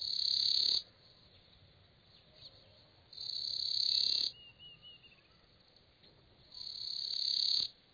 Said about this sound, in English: Just what the winding cisticola is so urgently winding up isn't entirely clear.